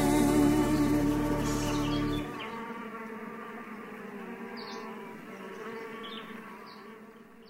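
A dense, continuous, full-bodied drone of buzzing bees, with a heavier low hum for the first couple of seconds before settling into a steady, slightly softer swarm sound.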